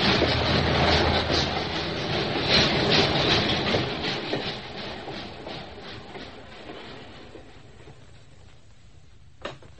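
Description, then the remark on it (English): A train headed for the city rolls along the rails with a steady rumble and faint rhythmic clatter, gradually fading and quieting, ending with a sharp brief click. “Mike, you can't leave me on the train by myself.”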